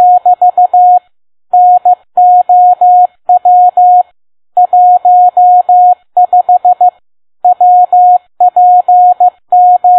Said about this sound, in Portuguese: Por exemplo, um sinal de código Morse.